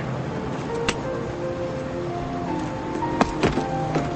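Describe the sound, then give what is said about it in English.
An airplane door swings shut with a few sharp mechanical clunks and latch clicks over a steady low machine hum. No one speaks. “Mike closes the door to the plane and turns to leave, but his coat is in the door.”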